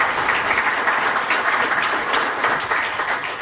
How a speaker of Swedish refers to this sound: Utan man behöver bra folk omkring sig, och därför vill jag skicka ett extra tack till mitt team som står här bak, och ni får gärna förära dem en liten applåd också.